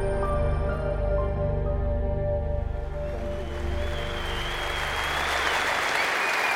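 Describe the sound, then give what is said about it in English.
A crowd breaks into steady, loud applause for a speaker at an evening event, rising as a fading musical tone gives way around the midpoint, then continuing as a dense wash of clapping to the end. “I would be a thief if I were to accept your applause as though I were the only Vietnam veteran in this house, because sitting next to you very likely is a man who served either during the time of war or back home during the time”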